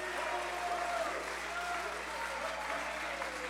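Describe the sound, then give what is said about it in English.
An audience claps their hands in a steady, dense wash of applause that holds at an even loudness throughout, with faint voices and a thin sustained tone mixed underneath. “Somebody clap your hands and bless His name.”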